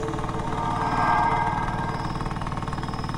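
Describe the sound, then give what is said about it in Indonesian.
The small two-stroke engine of an old Vespa scooter runs steadily as it is ridden toward a bridge, its buzzy, sputtering drone rising slightly in pitch midway before settling back into a rough, even rhythm. No voices. “Aku lanjut melajukan motor Vespaku ini menuju sebuah jembatan.”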